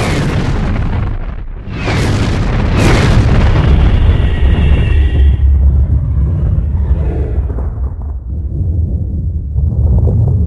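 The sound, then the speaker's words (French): A huge, booming explosion representing the Big Bang erupts after a brief lull, followed by a long, deep rumbling roar that slowly rolls on and fades, with no voices present. “Où commence la ligne ? Dans ce que vous avez appelé le Big Bang.”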